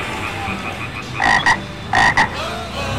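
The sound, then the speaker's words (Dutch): Two loud frog croaks, each a quick double-pulsed ribbit, arrive about half a second apart as the frog is run over, over a low, steady background noise, with no one speaking. “Je hebt zojuist Kermit de Kikker plat gereden,”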